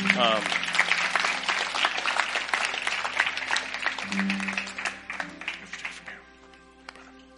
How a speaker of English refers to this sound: That was a good word. Amen. Good word. That was from the Lord. Yeah, give Jesus a hand clap.